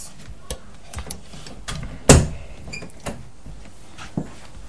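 A door is shut close by with one solid, resonant thud partway through, surrounded by a few lighter clicks and knocks in a quiet room.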